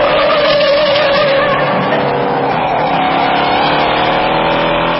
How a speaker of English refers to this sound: It's the 1968 Mustang that was driven by actor Steve McQueen in the movie Bullet, believed to have been the best car chase ever filmed.